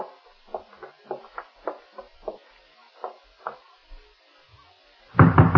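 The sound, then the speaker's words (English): Someone raps on the door of a ground-floor apartment about a dozen times in uneven bursts, sharp hollow knocks with short pauses between, ending in a louder burst of rustling noise. No one speaks. “Oh, the way you knock gives me the shakes”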